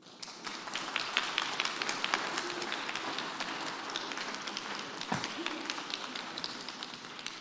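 A crowd applauds steadily for several seconds for a woman who turned 80 the previous week, a dense, even patter of many hands clapping at once, sustained at a fairly constant level throughout with no talking.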